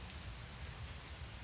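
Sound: rain falling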